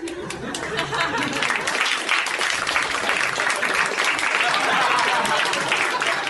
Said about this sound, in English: He applauded himself.